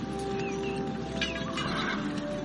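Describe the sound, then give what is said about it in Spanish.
A horse neighs in a couple of short, wavering whinnies over a steady low hum, with no one talking. “Queremos herrar estos caballos y necesitamos comida.”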